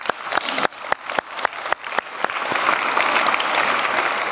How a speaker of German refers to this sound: Deswegen nochmal kurz ein Klatschen in die Runde zum Wachwerden.